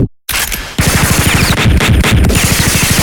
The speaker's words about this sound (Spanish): Tiroteo fiero y desconcertado.